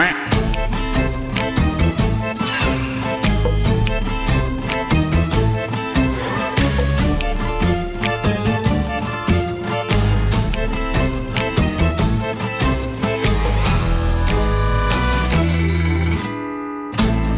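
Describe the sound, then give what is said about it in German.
A bright, full-band musical jingle plays loudly and continuously, with steady beats and layered melodic parts, ending with a brief cutoff before a short final burst. “Herrlich, wir haben heute nicht nur ein, sondern zwei Jingle für euch vorbereitet”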